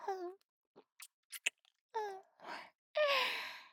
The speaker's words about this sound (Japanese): 激しい息遣い。